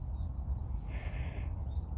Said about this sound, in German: Jetzt darfst du noch mal eine kurze Runde auf diese Vögel hören.